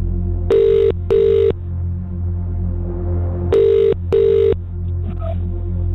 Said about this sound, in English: The phone is ringing. All I need to do is pick it up. That is literally it.